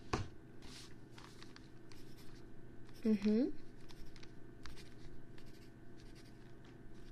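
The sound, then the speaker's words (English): A pen scratches across paper in quick, uneven strokes that continue throughout, with a short voiced murmur briefly rising over the writing midway. “Now, below is where I will write where you were born and the year.”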